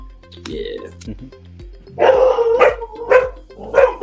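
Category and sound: animal, dogs barking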